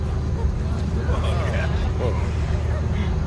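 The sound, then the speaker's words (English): The engine of a shiny black convertible sports car parked at a front curb revs with a deep, steady rumble that stays loud throughout, while indistinct voices murmur faintly underneath. “She sits behind the wheel of a shiny black convertible sports car, revving the engine as she looks at her phone.”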